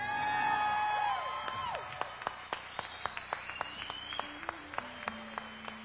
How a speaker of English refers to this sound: Now, let's cheer him on.